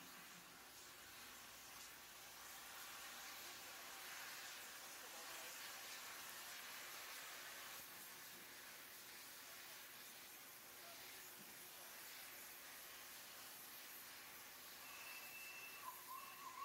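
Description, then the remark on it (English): A steady, loud hiss of escaping steam from a steam locomotive pulling out of York Station in England, broad and continuous, with faint rumbling underneath and a brief whistle-like tone near the end. “Now, this is it in pulling out of York Station in England.”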